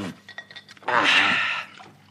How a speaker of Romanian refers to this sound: Eu de apă sunt sătul, mulțumesc, nu mai turna.